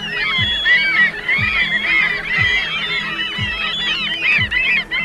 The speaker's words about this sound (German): Zum Vergleich, eigentlich hören sich Möwen so an.